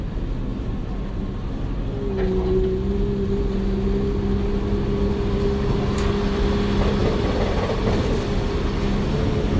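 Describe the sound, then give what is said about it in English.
A tour tram rolls forward into Soundstage 50, a film set, with a steady low rumble and a rising electric motor whine, punctuated by a few faint clanks and rattles; no one speaks. “You'll see the set on both sides of the tram car. Here we go.”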